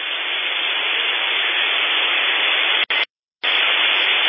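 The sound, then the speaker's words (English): Steady, dense amateur radio band static and interference (QRM) hisses loudly and evenly, with no voices, then briefly cuts out to silence for a moment before the crackling noise returns. “there's a lot of QRM in the band, and with everybody shouting”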